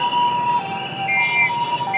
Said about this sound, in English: At one large intersection, it was like they were conducting this chaotic ballet, when they had to stop traffic on all sides for an ambulance to punch through.